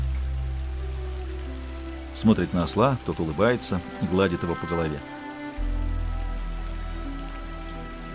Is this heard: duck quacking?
no